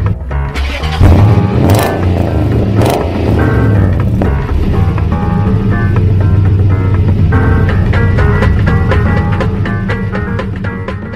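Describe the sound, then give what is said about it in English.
A Mini car engine runs loudly and steadily throughout, its pitch rising and falling as it revs, with sharp clicks and knocks scattered through the second half. “Since I couldn't find an Italian car, I went with a Mini.”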